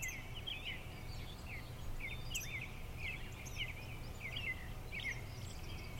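bird, birds chirping

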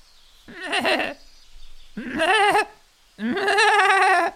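animal, goat bleating

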